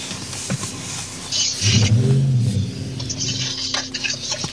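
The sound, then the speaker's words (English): A broad, steady engine roar of airplanes rumbles overhead, swelling briefly in the middle with a deep droning tone before settling back into a wash of noise. Nobody speaks. Planes fly over a neighborhood in Englewood, Los Angeles, very close to the airport. “The neighborhood is very close to the airport, so you'll hear planes flying overhead.”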